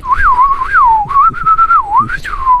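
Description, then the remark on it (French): A person whistles an imitation of a blackbird's song: one continuous, wavering melody that slides up and down in pitch, with a brief upward flourish near the end and no talking. “Fais-moi le chant du merle.”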